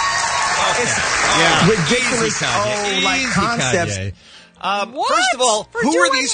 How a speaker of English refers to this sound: Who are these people applauding? Who in Jimmy Kimmel's audience sat there and applauded that remark?